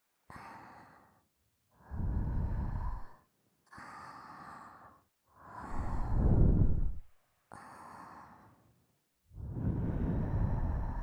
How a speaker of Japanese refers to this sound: 耳、吐息でいじるの気持ちいい。